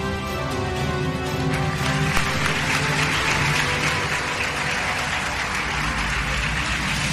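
An audience claps steadily, a dense wash of many hands filling the whole stretch at an even, fairly loud level without pauses or voices.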